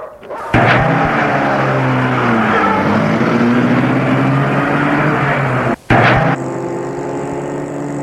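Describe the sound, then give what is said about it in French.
Two people get into a car and the driver starts it: the engine abruptly roars to life and revs loudly, its pitch climbing and shifting as the car pulls away, with a brief dip like a gear change before it drives on. “Ils entrent tous les deux dans la voiture et Adrien met la voiture en route.”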